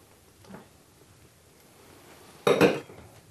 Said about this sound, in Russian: Не очень легко такой ложкой накладывать салат. Ну, другой нет.